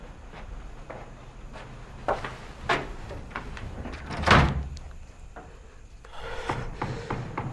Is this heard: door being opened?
yes